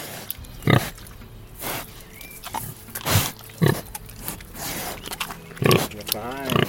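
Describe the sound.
Two pigs grunting in short, loud bursts that come every second or so, with squeals mixed in, as the farmer calls them outdoors on his mountain farm in South Tyrol's Schnals Valley and they obey.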